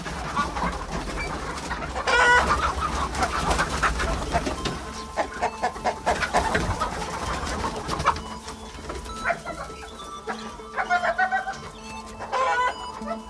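hens clucking

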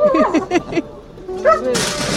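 dog barking

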